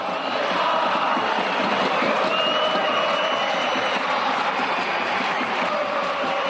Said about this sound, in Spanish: A grito de Xavi Hernández Loró Loró, la afición del equipo barcelonista quería apoyar al técnico que está pasando un mal momento.